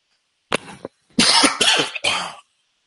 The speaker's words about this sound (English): I had to cough and then sip on some warm water. Sorry about that.